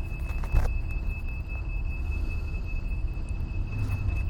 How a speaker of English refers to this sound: It's our little red disability cart backing up to pick someone in a wheelchair up.